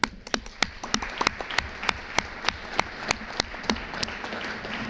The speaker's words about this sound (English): Excellencies, dear colleagues, this brings us to the end of this session. I would like to invite you all to thank our panelists with a warm applause.